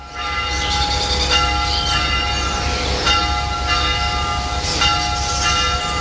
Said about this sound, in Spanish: Estamos comenzando el programa desde el campanario de la iglesia de Adanero. Vamos a escuchar otro toque de campanas, el de misa.